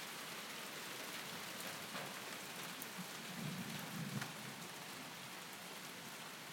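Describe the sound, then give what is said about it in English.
Steady, dense rainfall hisses across the whole recording during an electrical storm, with a low rumble of thunder swelling briefly partway through. No voices, just the continuous wash of a heavy downpour. “It's raining again. Is it? Yeah. Here it comes. Really hard.”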